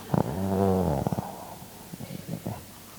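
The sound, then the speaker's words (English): A voice imitates heavy, sleepy breathing, one drawn-out, throaty near-snore, followed by a few faint, uneven breaths trailing off into quiet. “Maybe not snoring, but almost.”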